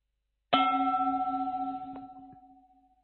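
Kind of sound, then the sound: signal or alarm, meditation bell struck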